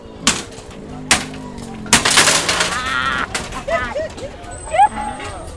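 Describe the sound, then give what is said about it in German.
Several sharp, loud cracks and a burst of shattering plastic and glass as children smash screens of old computers on wide mud fields strewn with shards of glass, plastic and metal, followed by high, excited children's voices calling out. “Auf weiten Schlammfeldern, die übersät sind mit Splittern aus Glas, Plastik und Metall, zerschlagen Kinder Bildschirme von alten Computern.”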